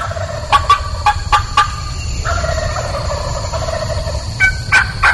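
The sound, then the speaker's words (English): A wild turkey gobbles several times in quick, rattling bursts at daylight on a ranch in Florida, over a steady low outdoor rumble as an airplane comes over, with a thin sustained tone running underneath and a final burst of gobbling near the end. “Right at daylight, I'm going to owl hoot and start the turkey.”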